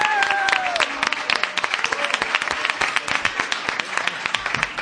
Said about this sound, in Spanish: Yo quiero que recibáis con un grandísimo aplauso a la murga ….